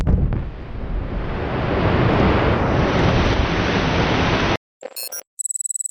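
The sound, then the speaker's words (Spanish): An open-pit mine blast with explosives, breaking thousands of tonnes of rock, roars out after a countdown as a loud, sustained rumble of rock and debris lasting several seconds, then cuts off abruptly, followed by brief electronic beeping tones. “Esta voladura de miles de toneladas de rocas diarias provoca un hoyo llamado Tajo o Open Pit.”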